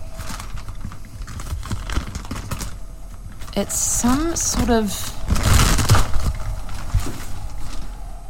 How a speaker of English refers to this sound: I'm just lowering the vacuum cleaner and I'm just grabbing a plastic bag. Oh, it's tight. Okay, this plastic bag looks like it's been here for numerous years.